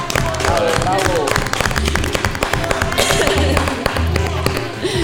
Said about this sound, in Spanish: Un aplauso.